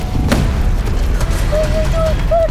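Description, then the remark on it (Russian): A heavy cannon boom, from sailors loading and firing cannons, bursts out near the start, then rumbles on in a dense low roar, with a few thin whistling tones rising toward the end. “Матросы пушки заряжают, стреляют!”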